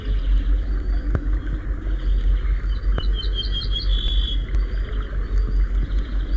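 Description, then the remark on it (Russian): An ortolan bunting sings a short phrase of about five or six clear, repeated high notes ending on a longer drawn note, heard over a steady low rumble with a few faint clicks. “Песня садовой овсянки похожа на песню обыкновенную, только чуть грубее и короче.”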